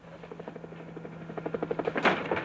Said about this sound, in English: What is it? Chopper, sir. I don't hear anything.